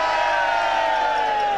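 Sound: crowd cheering and shouting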